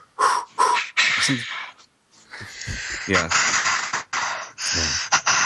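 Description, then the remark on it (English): A voice imitates the heavy, trance-like breathing of a woman in a film practising levitation in a hypnotic trance: a run of long, rasping, wheezy inhales and exhales, fairly loud. A brief spoken word slips in among the breaths. “practicing her her levitation skills, she does do the same breathing techniques as we hear at the start when the nurse hands over those papers, and she looks like she's in a hypnotic trance.”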